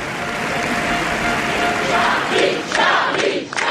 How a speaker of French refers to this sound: C'est assez impressionnant de vivre ça de l'intérieur. On entend les applaudissements, hein. On entend la foule qui applaudit ses chefs d'État.